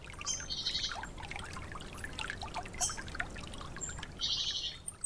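Water lapping and trickling steadily in a stream among reeds, a continuous soft gurgle, with bright bird chirps scattered over it in short bursts.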